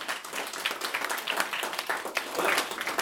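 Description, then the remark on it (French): Steady applause from an audience, a dense crackle of many hands clapping at an even, sustained level for the full few seconds, with no voices standing out. “Mais on peut les applaudir, on peut les remercier.”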